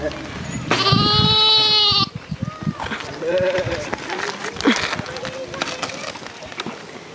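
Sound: sheep bleating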